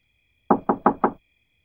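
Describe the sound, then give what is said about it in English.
Four quick, firm knocks on a door in the middle of the night by someone outside, in a steady rhythm, clear, with silence before and after. “Okay, there's someone outside my door.”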